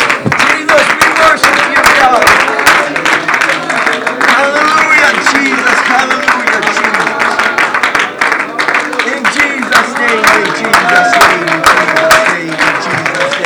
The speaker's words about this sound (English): Oh, let's give a hand clap of praise to God tonight.